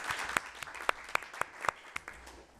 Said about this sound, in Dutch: Okay. Misschien is een nu kort applaus op zijn plaats.